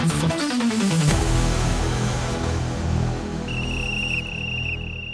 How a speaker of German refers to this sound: Die Pfeife am Ende, da habe ich extra drauf gewartet.